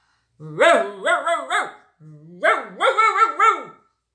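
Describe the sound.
A voice imitates barking dogs, children told to bark: two quick bursts of yelping woofs, three then four, loud, with a short gap between them.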